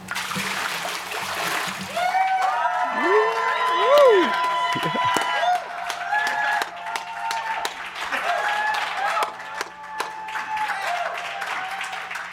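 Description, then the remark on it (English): A brief watery splash from a church baptism gives way to the audience's loud cheering and steady applause, with rising whoops and shouts over continuous clapping that lasts about ten seconds. “Hopefully you are cheering loud right now because of what God is doing in people's lives.”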